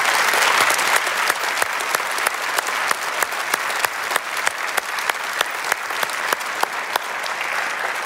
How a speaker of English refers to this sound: Church, would you give them a huge round of applause and welcome them to the family?